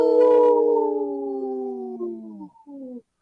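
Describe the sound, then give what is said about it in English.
A wolf lets out one long, mournful howl that glides slowly downward in pitch, breaks briefly near the end, then resumes and trails off. No one speaks over it. “Say no to the hunts. Howl!”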